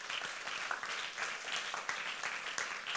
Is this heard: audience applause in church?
yes